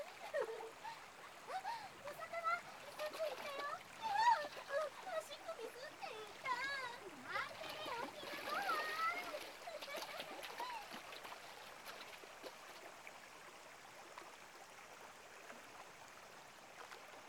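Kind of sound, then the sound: nature, splashing water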